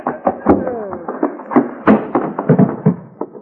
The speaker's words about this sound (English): Hoppy, you knocked him plumb through the screen door.